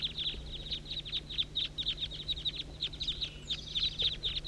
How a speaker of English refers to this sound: Start recording the flock. Good grief, there must be 25 birds. Recording the major part of the flock here.